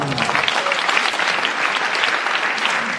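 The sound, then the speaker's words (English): Sustained applause from a sizable studio audience, a dense steady patter of many hands clapping for about three seconds, with no speech over it. “So the audience applause and means that you're entitled to an extra bonus point.”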